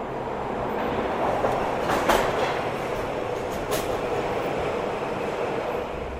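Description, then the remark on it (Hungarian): A train of the Millennium Underground Railway beneath Andrássy út rumbles along steadily, its continuous roar punctuated by a couple of sharp rail clacks. No one speaks. “Van egy olyan kincse is, amely a felszínen nem látható, ez a milleniumi föld alatti vasút.”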